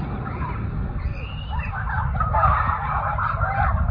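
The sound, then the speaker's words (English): High, squawking shrieks of people jumping into a pool after a time trial rise over a steady low rumble, several overlapping cries that grow louder and more continuous in the second half of a muffled, low-quality recording. “There's shrieks in the background.”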